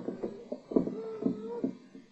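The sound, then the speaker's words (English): A series of dull, low thuds, about six or seven knocks at an uneven pace, with a faint droning tone underneath. The knocking is fairly soft and muffled, with no talking. “I heard it. Like a knocking.”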